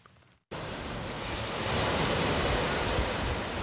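Black Sea waves rush continuously onto a small sandy city beach in Odessa, Ukraine, a steady, fairly loud hiss of surf that cuts in abruptly after a brief quiet moment, with no voices.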